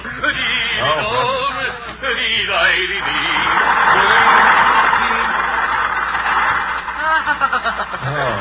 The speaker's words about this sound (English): Two things just turned over. Tchaikovsky and the motor.